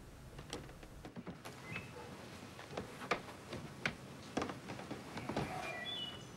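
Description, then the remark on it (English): Two people push against a wooden barn door, producing a series of irregular creaks, knocks and rattles over about six seconds, with no voices. “He pushes against another wooden door, and Lee helps him.”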